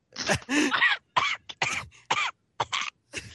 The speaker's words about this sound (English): I can breathe, I swear. If you can cough, you can breathe. well, that's not at the same time. That's the rule of choking I always heard. If you can cough, you're still breathing.